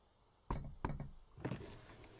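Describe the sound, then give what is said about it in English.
Three sharp knocks on a car window on a Sunday morning in Slovakia, with a slight pause before the last. No voices, just a faint background hush between the raps. “My knock on the window startled him.”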